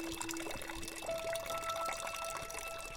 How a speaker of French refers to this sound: Les trucs d'eau qui coulent de partout. Oh là là, l'eau qui tombe.